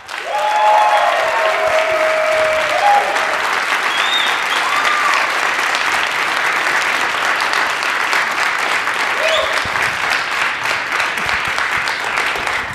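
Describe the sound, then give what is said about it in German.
Sustained applause from an audience, a dense steady wash of clapping that holds at a loud, even level for over twelve seconds, with a few faint whoops or tones rising above it early on. “Erstmal euer Applaus für Jennys Frage über den fistenden Arbeitskollegen.”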